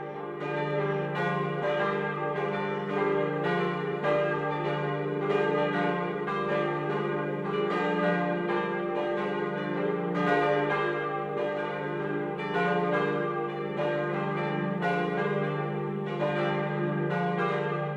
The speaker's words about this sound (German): 1953 bestellte die Pfarrei dann drei Gussstahlglocken beim Bochumer Verein, die noch im selben Jahr eingeweiht wurden. Mit ihren Schlagtönen D, F und G orientieren sie sich an der alten Glocke mit dem Ton A.